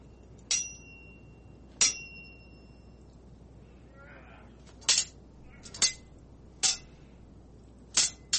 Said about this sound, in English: Sword ratcheting this time, guys.